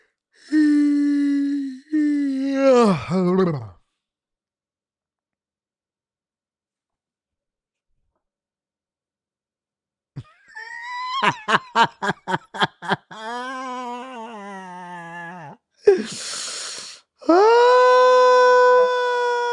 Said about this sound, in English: Yawns is contagious. They contagious. Even make my eyes water. Every time I yawn, I got my eyes watering out here.